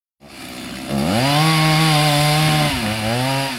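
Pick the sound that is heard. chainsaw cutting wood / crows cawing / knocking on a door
chainsaw cutting wood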